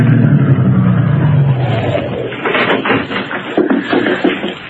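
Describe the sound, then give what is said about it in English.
A big limousine's engine rumbles as it drives up to the only entrance of the stone-walled Greystone estate in June '22 and settles, then the low drone gives way to shuffling, rustling movement near the car. “One day, back in June of 22, a big car drove up to the only entrance.”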